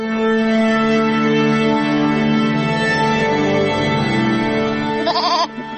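A goat on a farmstead in Lithuania lets out a long, loud, drawn-out bleat, its voice quavering and breaking near the end before cutting off. No one speaks.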